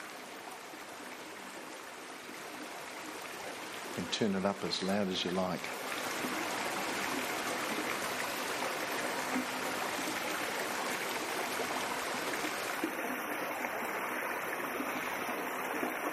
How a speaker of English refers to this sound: It's a lovely mountain stream in Harriepool. Crystal clear water. I think I could go to sleep with that beautiful sound rippling down.